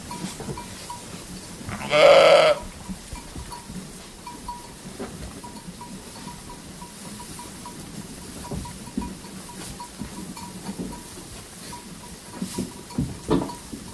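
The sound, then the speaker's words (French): A loud bleat from a flock of ewes rings out near the start at Cirque de l'Abeille, followed by a quieter outdoor farmyard backdrop with faint, scattered animal sounds and a soft, steady tinkle. “il s'est entretenu avec elle sur ses pratiques anciennes autour de la paysannerie, de sa vie avec les troupeaux de brebis qu'elle n'a jamais quittés.”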